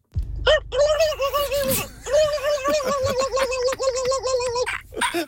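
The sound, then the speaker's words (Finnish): A man imitates a turkey gobble with his voice in the animal karaoke segment of the Suomi-Räp morning show, a loud, warbling, throaty burst that runs for about five seconds almost without pause. “Nyt laitetaan perkaamaan hienoa äänisaldoa läpi ja päästetään estradille ensimmäinen kalkkuna.”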